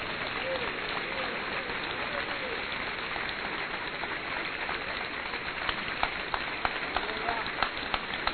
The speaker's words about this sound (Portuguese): Receberam a palavra de Deus? Aplauda o Senhor para valer, gente.